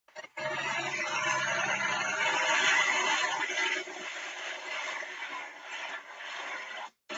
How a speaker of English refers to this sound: Now, what I'm going to do is I'm going to play the audio from the medevac helicopter that was flying over my house. Again, 200 feet above my house, not 15 feet below rotors.